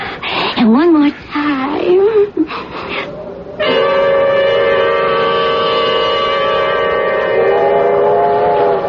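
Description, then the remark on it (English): A loud, steady train whistle blows continuously for several seconds, sustained, following a few seconds of wavering vocal sounds from a person. “train. What train?”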